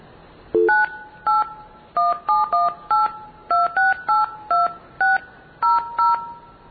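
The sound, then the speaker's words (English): A quick run of about a dozen loud, evenly spaced two-tone beeps, blue box telephone signaling tones played live as a demonstration, shifting pitch between bursts, preceded by one brief lower tone, with no talking. “I'm going to blue box. I'm going to do something that probably people have not seen in quite some time.”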